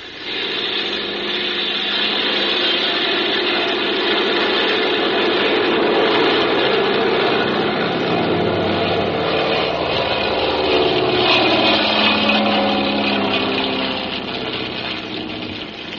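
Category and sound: vehicle, small propeller plane engine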